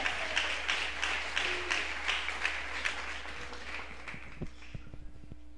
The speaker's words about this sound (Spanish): Denle un aplauso a Él.